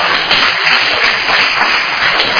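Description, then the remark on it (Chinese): A group of people applauding the first-place group, group six, a steady dense patter of many hands clapping at once, fairly loud and sustained without any voices over it. “第六组来，我们给他拍手一下。”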